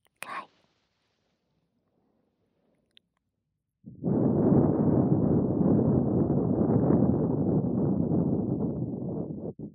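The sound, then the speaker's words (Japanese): A long, steady breath blown into the listener's ear, loud with a rushing, wind-like hiss lasting several seconds. It follows a brief soft whisper and a pause of silence. “奥まで届く。お姉ちゃんの吐息、もっと感じてよ。”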